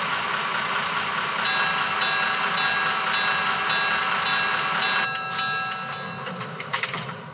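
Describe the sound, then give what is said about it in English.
Passenger train number 945 arrives on track 1 at West Foxbury station, rumbling steadily with a deep low drone and high metallic squeal as it slows, the noise easing toward the end with a few clanks. “on track 1, train number 945.”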